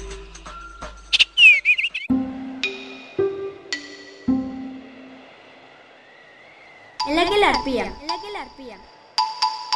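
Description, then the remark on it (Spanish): A bird, one of the rarest in the world and the only species in its genus, calls in bursts of bright, sweeping chirps and whistled notes, some rapid and trilling, others held and steady, clear, with short pauses between phrases. “En nuestro billete de 10 se presenta una de las aves más raras del mundo.”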